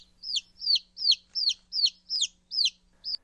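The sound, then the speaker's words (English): Newly hatched chicks peep in a nesting box, climbing over and under a sitting hen. It is a steady series of eight high, thin, downward-sliding cheeps at an even pace, clear against a faint low hum, with no talking. “He's quite cute as he cocks his head at odd angles to listen to the peeping noises.”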